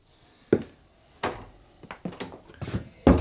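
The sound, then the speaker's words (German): A door is pushed shut amid a run of wooden knocks and rattles, several sharp bumps spaced irregularly before a heavier final thud. “Jetzt komm erst mal rein, Benny, und mach die Tür zu.”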